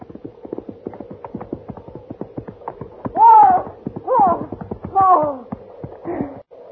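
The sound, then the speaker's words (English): Quick, rhythmic horse hoofbeats clip-clop steadily for several seconds. A few loud, high, wavering animal cries are then layered over them as the sound grows louder. “Look back there, that horse.”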